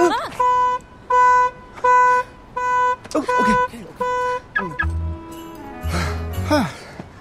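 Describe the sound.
The horn of a tiny two-seater rental smart car, unlocked with a key fob outside the terminal, chirps in a rapid run of about six short, evenly spaced, loud honks, followed by brief voice-like sounds and murmuring.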